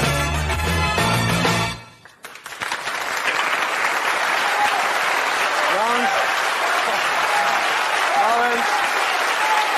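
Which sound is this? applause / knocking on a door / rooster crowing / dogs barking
applause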